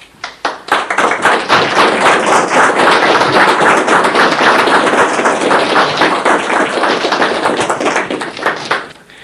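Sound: applause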